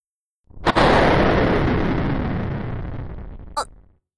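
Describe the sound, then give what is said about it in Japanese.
A sharp crack of thunder bursts out suddenly, then rolls into a long, loud rumble that slowly fades over a few seconds, with a brief second crackle near the end. “停電？今の雷かしら。”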